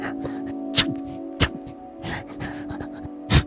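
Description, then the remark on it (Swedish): Hedgehog panting and sneeze-like snorts: a few short, sharp breathy bursts among softer huffing, fairly quiet, over a steady low background hum. “Utstöter de vanligtvis svaga läten som liknar flåsanden och nysningar.”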